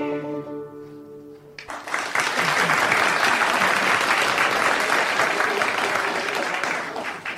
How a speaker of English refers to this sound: Some well-deserved applause for … there, featuring ….